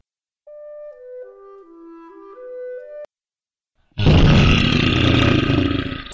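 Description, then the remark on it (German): A short descending melodic tune plays, then after a brief pause a bear in a zoo enclosure lets out a loud, rough roar that lasts about two seconds before cutting off. “Oh nein, der Bär kommt immer näher.”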